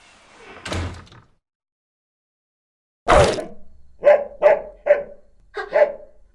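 A door opens and slams shut, then a big dog barks five times in quick, uneven bursts, loud and close, with no talking.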